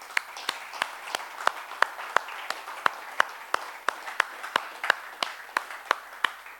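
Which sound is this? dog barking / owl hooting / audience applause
audience applause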